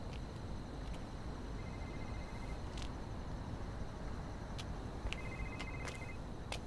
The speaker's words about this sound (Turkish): Karanlık arabaya doğru yürüdü. Telefon sesi içeriden geliyor.